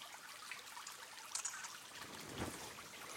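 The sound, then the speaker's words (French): Water trickles steadily over stones in a small permanent stream, a continuous soft gurgling with faint splashes, moderately quiet, with no voices. “Un indice qui va permettre de le faire reconnaître comme un ruisseau permanent, et donc comme un cours d'eau.”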